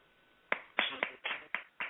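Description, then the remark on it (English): Six sharp hand claps in a quick, steady rhythm, each a crisp slap with a short fading tail, standing alone after a brief quiet moment with no voices. “If you selfish and you know it, clap your hands.”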